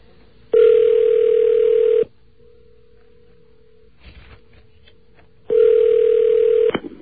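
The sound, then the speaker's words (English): A telephone call to someone somewhere in the city rings out: two long, loud buzzing ring tones separated by a quiet pause with a faint steady tone, the second ring cut short. “should be ringing him somewhere, wherever he is in the city.”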